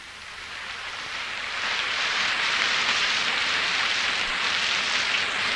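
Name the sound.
rain and storm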